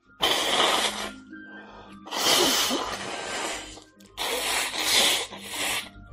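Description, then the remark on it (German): Three loud, breathy bursts of nose-blowing and sniffling, each lasting about a second with short pauses between, with no talking. “Gähnen, dann das Niesen, jetzt das Schniefen, das Schneuzen.”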